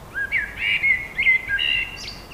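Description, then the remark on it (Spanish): A Colombian bird sings a quick series of bright, whistled chirps, rising and falling in a continuous warbling phrase, clear with no voices present. “Para tejer este episodio ambientado con música de la China y sonidos de pájaros colombianos, pues somos la tierra del café, de los pájaros y de las flores”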